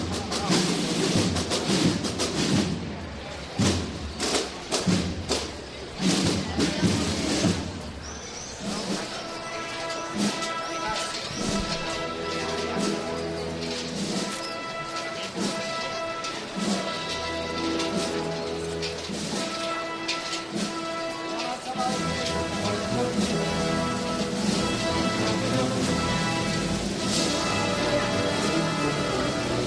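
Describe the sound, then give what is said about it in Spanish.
Canopy fringes of the Virgen de la O palio float from Triana swing and clatter against its metal poles in quick, uneven jingling bursts, strongest in the first few seconds, as it reaches the Plaza de la Campana, with a brass band playing steadily throughout. “Cómo suena el …, cómo suenan las bambalinas rebotando en los varales.”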